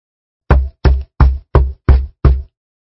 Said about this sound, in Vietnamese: Có tiếng gõ cửa. Lần này đích thực là thằng Ferruccio đi chơi về.